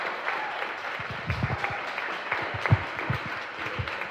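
Steady applause from an audience, a dense patter of many hands clapping at once with a few sharper claps standing out, holding at moderate loudness for a few seconds with no talk.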